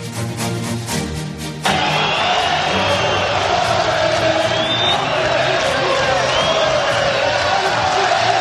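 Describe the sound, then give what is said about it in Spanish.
After a brief musical opening, a dense football stadium crowd at the Getafe-Sevilla match roars continuously, with shouting and chanting, including barely audible racist shouts, blended into a loud, steady wash of voices and occasional whistles. “Encontrar entre 30, 40 o 60 mil personas son los autores de unos gritos racistas que se oyen a duras penas.”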